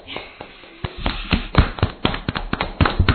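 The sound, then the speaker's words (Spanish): A small group of show hosts claps by hand, giving sharp, uneven slaps in a loose, sparse rhythm rather than a full roar of applause, lasting a few seconds. “¡Aplausos!”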